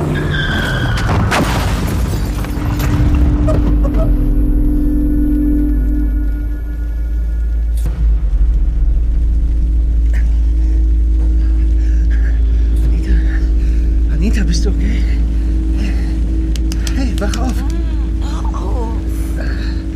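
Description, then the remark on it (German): A car engine rumbles steadily on a road slick from rain, its pitch climbing as it accelerates, with a sharp burst of tire noise near the start and a continuous deep drone throughout. “Hey, kannst du nicht ein bisschen schneller fahren? Es ist glatt hier, es hat geregnet.”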